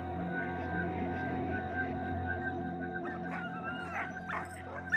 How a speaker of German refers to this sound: Hunde, widerstandsfähige Huskies. Von den Eskimos im Norden Kanadas hat der Norweger Roald Amundsen gelernt, wie man mit ihnen umgeht, wie man sie vor Schlitten spannt, wie man mit ihnen in der Eiswüste vorankommt.